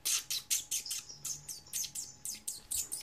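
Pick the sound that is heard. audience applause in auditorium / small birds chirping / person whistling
small birds chirping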